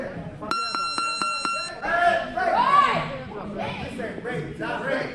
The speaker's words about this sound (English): And while you may think that bells ringing every few minutes is a bit Pavlovian,